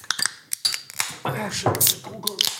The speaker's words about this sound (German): Zuerst mal öffnen wir ein gut gekühltes Bier. Oh, Bier.